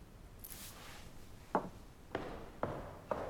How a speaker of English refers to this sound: Outside the door, Julia marches off down the corridor. Rex hears a heavy footfall.